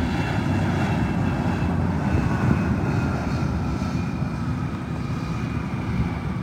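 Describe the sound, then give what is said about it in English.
A commercial airplane landing at Manhattan Regional Airport in September, the first commercial flight there in over four months, touching down to a water cannon salute: a steady, loud engine roar with a deep rumble and faint high whining tones, continuous throughout, with no voices. “In September, the first commercial flight in over 4 months touched down to a water cannon salute at the Manhattan Regional Airport.”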